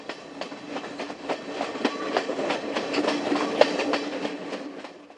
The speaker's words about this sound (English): train pulls out of Colombo's Maradana station and is en route to Gaul. We are in Sri Lanka.